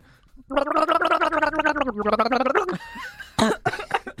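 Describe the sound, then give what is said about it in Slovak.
On Europa 2 radio, a person gargles a song for others to guess, producing a bubbly, warbling sung tone that holds and then slides lower before breaking into short sputtering bursts and a brief higher note. “Takže, kloktanica spočíva v tom, že ty vykloktáš nejakú skladbu a my hádame akú.”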